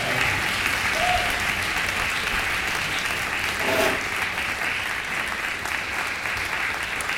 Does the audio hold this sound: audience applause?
yes